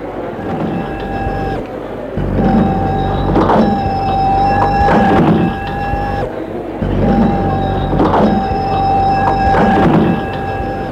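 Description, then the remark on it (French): A café door opens with a mechanical whir, a steady humming tone and clunks; the same sequence plays twice, loud, with no voices. “La porte du café s'est ouverte.”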